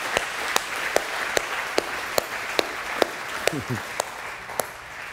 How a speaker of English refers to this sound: I said it was sort of muffled in the clapping there, but I want my wife to shout it from the back row, which she always says to people.